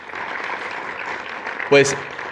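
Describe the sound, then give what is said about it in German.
Steady applause from an audience at an event, welcoming a member of parliament from Japan, fills the whole clip, a dense wash of clapping at an even level. Near the end, a brief, louder tonal cry or whistle cuts through. “Bitte geben Sie einen Applaus.”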